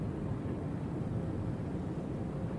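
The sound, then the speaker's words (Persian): A steady, low rumbling engine drone fills the space like the inside of an airplane cabin, constant and unbroken throughout with no voices present. “چه خبره اینجا؟ توی هواپیما؟”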